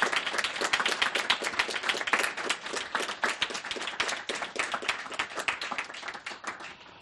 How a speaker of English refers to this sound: So let's have a big thank you and applause for our program tonight and all of us, all of you who participated in it, for our terrific speakers. So a big applause for our speakers.